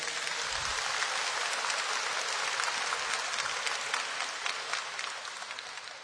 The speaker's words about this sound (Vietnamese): Cho nên trước hết tôi xin kính chào anh chị em và chúng ta cùng chào nhau bằng một tràng pháo tay.